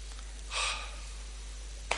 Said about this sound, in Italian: Primo consiglio, un bel respiro.